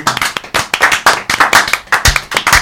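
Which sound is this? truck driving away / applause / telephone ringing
applause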